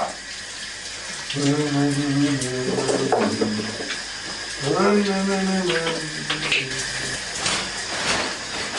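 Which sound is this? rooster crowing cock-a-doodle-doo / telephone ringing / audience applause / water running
water running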